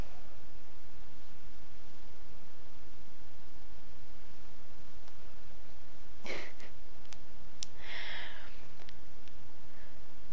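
A soft inhale while joining the palms in the namaste prayer position during a breathing exercise, followed by a slow, calm exhale, two airy breaths rising briefly above a steady hiss of background noise, with no talking.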